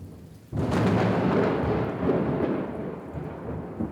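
After a brief quiet start, a loud crack of thunder breaks and rolls on in a heavy, sustained, powerful rumble over steady rainfall, with no voices.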